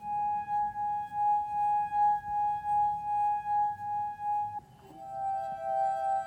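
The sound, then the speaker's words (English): A moistened finger rubs the rim of an ordinary drinking glass attached firmly to a base, drawing out a clear, sustained singing tone that swells and pulses with each stroke, then shifts to a slightly different pitch near the end. No voices. “Basically, you just have these glasses, which are attached quite firmly to a base, and if you moisten your finger and rub the rim of a glass, you get a tone.”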